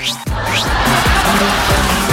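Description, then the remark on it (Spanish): A loud public transport bus (micro) horn with a whistling tone, opening with rising swoops and then pulsing in quick repeated bursts over a steady roar of traffic noise. “Oye, ¿hay alguien que trabaje en la locomoción colectiva en la micro que tiene una bocina como que hace así como... como que te pega un chiflido, ¿no?”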